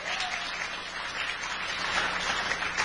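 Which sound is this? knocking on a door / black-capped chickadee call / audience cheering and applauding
audience cheering and applauding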